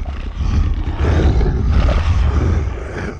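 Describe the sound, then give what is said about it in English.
A Granta, a 15-foot-tall boar creature as tall as an elephant from the north of Ankara, roars, a deep, rumbling growl that stays loud for about three seconds, thick with low bass and gritty rasp, with no voices. “The north of Ankara is dominated by 15-foot-tall boars called Granta, who are feared as much for their raw physical might as their cleverness.”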